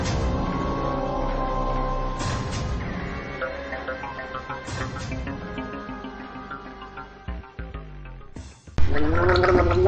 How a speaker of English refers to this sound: Practicing. Practicing what? I'm getting my throat ready for our podcast. Oh. By gargling water? That's fucking insane.